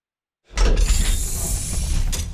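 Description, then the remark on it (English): After a moment of silence, a loud mechanical clatter starts up and keeps grinding, ratcheting and rumbling steadily as a subway turnstile mechanism turns at Baquedano station, with sharper bursts at the start and near the end. “This is The Birth of Things, The Last Turnstile.”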